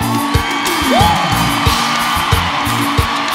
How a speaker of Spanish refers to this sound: ¡Dar un fuerte aplauso!